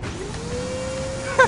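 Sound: vacuum cleaner running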